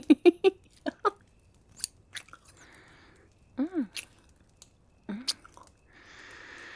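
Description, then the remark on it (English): Crisp snips of scissors cutting, a quick cluster at first and then scattered single cuts, with brief soft vocal sounds in between and a faint hiss at the end. “And I brought scissors with me when I came out here to get you started.”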